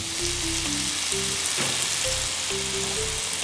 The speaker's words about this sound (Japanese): ね、はい、リンゴがちょっと柔らかくなるようにね、ちょっと炒めにします。強火でも構いませんよ。